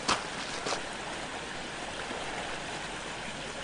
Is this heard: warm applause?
no